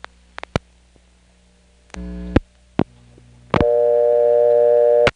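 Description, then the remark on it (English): A payphone handset is hung up and picked up again: a few sharp mechanical clicks of a coin return and a short buzzing tone, another clack, then a steady, loud telephone dial tone that holds for over a second before cutting off. No voices. “When I hung up and then picked up again, instead of getting a new dial tone, there was a coin return, and then finally a new dial tone.”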